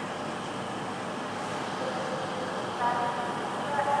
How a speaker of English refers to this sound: Alright, train is due in now. Oh, and right on cue. Well, sounds like we've got an HST.